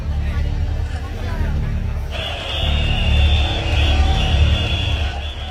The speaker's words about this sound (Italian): Questa è la calca attraverso la quale l'uomo dello spirito dovrà farsi largo mentre le persone spingeranno per toccare il suo corpo nudo. Ognuno di questi 10.000 uomini cerca il punto migliore per raggiungere l'uomo dello spirito non appena emergerà.